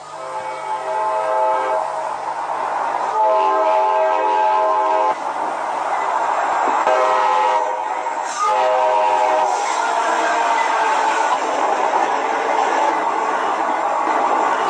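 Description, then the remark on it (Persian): A train horn blows in several long, loud, sustained blasts over the continuous rumbling roar of a train moving along the rails. No one speaks. “شما سوار این قطار شدین، با قطار رفتین، با قطار اومدین.”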